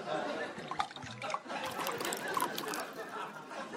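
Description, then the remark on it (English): Tea pours into a cup in a steady, splashy trickle that runs unbroken for about four seconds at moderate volume. “Pours himself a cup of tea.”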